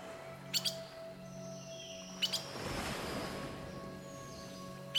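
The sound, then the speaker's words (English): Birds chirp and sing in short bright bursts, with quick tweets repeating every second or two over a steady soft background wash, like surf. “Birds.”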